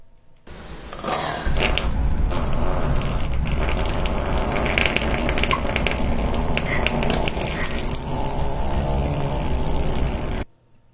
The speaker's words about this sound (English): That's a fart. It's a fart. That's a human fart. Yeah, okay, fart. We unanimously all believe it's a fart. That is correct. It is, in fact, a fart.